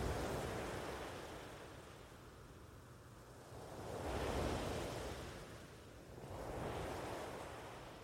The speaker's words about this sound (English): Enjoy the sounds that the waves make as they wash into the shoreline.